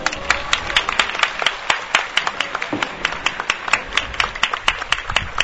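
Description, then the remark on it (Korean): A crowd applauds steadily for bereaved families, many hands clapping in a dense, crackling patter with sharp individual claps standing out, sustained at a fairly even loudness throughout. “유가족분들에게 다시 한번 뜨거운 박수 부탁드리겠습니다.”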